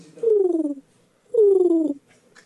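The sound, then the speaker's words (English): A person imitates a wounded pigeon with two drawn-out, falling, strained coos, each about half a second long, separated by a short pause. The voice is fairly loud. “Wounded pigeon.”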